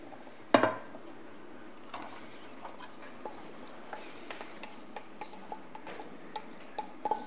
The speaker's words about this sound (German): In der Pfanne werden wir zuallererst die Zwiebeln anrösten oder andünsten, besser gesagt.